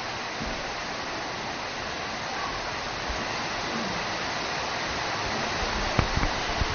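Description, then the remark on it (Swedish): Steady rain pours down in a dense, unbroken hiss that holds an even loudness throughout, with a few faint sharper patters near the end and no voices. “Får lite kort här av regnet.”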